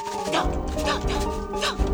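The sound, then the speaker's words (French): A dog barks three times in short, evenly spaced yelps over a steady humming background, moderately loud. “Il a vu son chien à ses côtés.”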